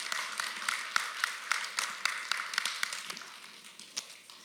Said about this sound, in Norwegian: Så jeg lurer på, skal vi gi dem en skikkelig applaus, ikke at når de lytter det, så hører de at vi klapper og ønsker de velkommen?